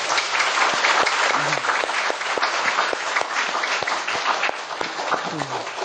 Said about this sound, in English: You should be happy for them. You should applaud them.